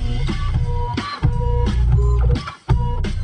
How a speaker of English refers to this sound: Printer, jam.